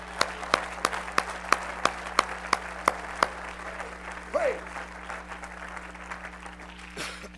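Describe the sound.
An audience claps in steady unison, about a dozen sharp claps at a brisk, even beat, then the clapping gives way to a low murmur of crowd noise and a brief voice.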